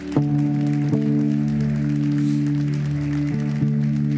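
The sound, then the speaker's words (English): A church audience claps in a dense, continuous patter during a morning service, blended with steady sustained organ or keyboard chords that hold and shift a few times beneath the applause. “Come on, church, give me a hand clap this morning.”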